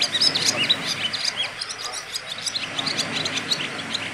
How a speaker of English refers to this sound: You know what it is, don't you? It's a swallow. My first swallow of the season.